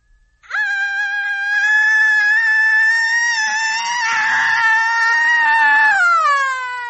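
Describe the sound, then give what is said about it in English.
A woman in a screaming competition lets out a long, loud, sustained scream lasting several seconds, high-pitched and steady with a slight waver before trailing off at the end. “Just a scream for the boys now.”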